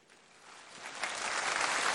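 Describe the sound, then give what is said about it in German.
Applause from a crowd swells steadily, a dense wash of many clapping hands that grows louder over two seconds, with no voices over it. “Auch dieser Abschnitt wieder Applaus.”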